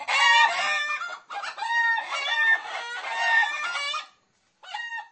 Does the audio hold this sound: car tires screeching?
no